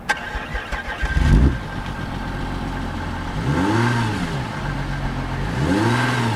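A car engine cranks and catches with a burst around the first second, settles into a steady idle, then is revved twice in rising-and-falling surges. No one speaks.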